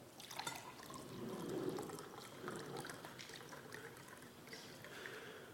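Wine pours steadily into a cup for several seconds, a continuous splashing trickle with a gurgling texture and no voices.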